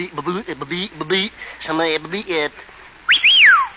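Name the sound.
person whistling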